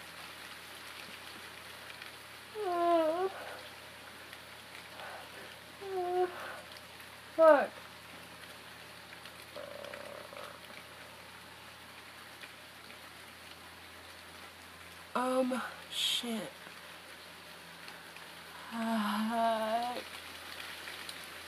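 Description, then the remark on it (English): Steady, cold rain patters outside an open window, a soft continuous hiss filling the whole stretch, while a person speaks in short, scattered bursts. “It's raining outside. It's cold. I can see my own breath. My window is open”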